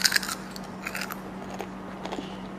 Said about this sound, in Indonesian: Wah, camilannya enak dan kriuk-kriuk.